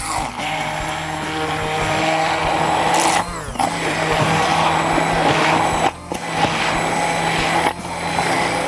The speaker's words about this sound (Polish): Jak mamy już wszystkie składniki w blenderze, nie pozostaje nam nic innego, jak wszystko dokładnie zblendować na gładką masę.